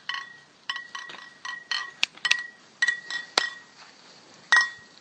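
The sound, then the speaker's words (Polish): Glass beer bottles clink against each other again and again in an irregular rhythm, each bright knock leaving a short ringing tone, with no voices. “Co tu tak brzęczy pięknie?”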